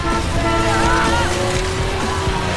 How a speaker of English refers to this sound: Phil holds a chainsaw. Watch me, boys! I'm going in! The Tigers recoil as Phil slices through an animal carcass with a chainsaw.